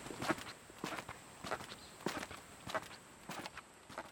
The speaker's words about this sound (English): Hey, I was just mentioning last episode how my shoes didn't squeak anymore, I guess because it was raining today. I can hear them a little bit.